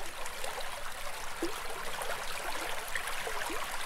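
Steady rushing water fills the scene, a broad continuous hiss of a waterfall and stream with small gurgles and splashes bubbling through, no voices present.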